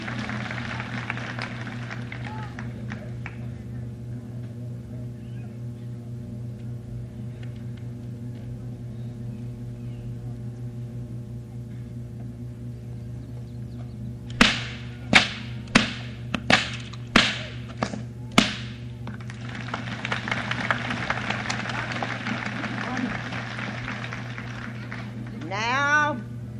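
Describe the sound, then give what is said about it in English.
A rapid series of about seven loud, sharp bullwhip cracks cutting straws snaps out over a steady low hum, followed by a burst of broad crowd-like noise. “Now Tommy's going to cut three straws with three strokes.”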